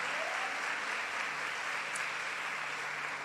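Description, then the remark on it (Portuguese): A church audience applauds the Lord steadily, a dense wash of many hands clapping that stays loud and even throughout, with no voices standing out above it. “Pode aplaudir o Senhor.”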